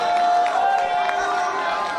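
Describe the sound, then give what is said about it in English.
A large group of voices rises together in a sustained, overlapping murmur of vocal praise to God, steady and fairly loud, with no clapping or music, many people calling out at once. “Somebody tonight, take 30 seconds and give God praise. Just where you are, just give God praise.”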